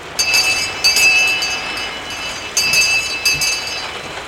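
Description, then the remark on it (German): A small bell hanging at the door of what looks like a drugstore with its shutters down is rung in several quick bursts, giving bright, high metallic jingling tones that linger briefly between shakes, over a steady hiss like rain. “Hier hängt eine Glocke. Ich bimmle mal.”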